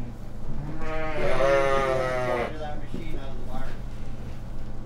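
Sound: sheep bleating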